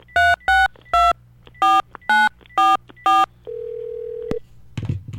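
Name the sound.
telephone keypad dialing tones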